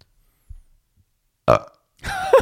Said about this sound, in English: That was for you guys. I've been holding that burp and I just decided to let it out.